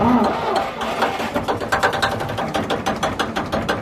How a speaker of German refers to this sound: Jetzt starten wir die Maschine. Burkhard Rose von der Seglervereinigung Rhein-Main setzt den alten Motor in Bewegung